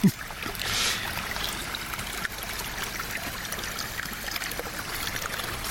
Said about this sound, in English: It's always the same and always different since the beginning of the flowing of the water to eternity.